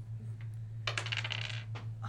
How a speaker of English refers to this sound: Roll a different die. Roll another die. 13 plus... No, damage die. Oh, damage die. Yeah, you've already rolled enough 20s. I already rolled my damage die. That was for one arrow. We gotta see what the other arrow does.